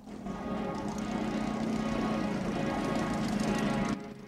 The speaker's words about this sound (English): The gyro captain drives towards them in his battered chopper.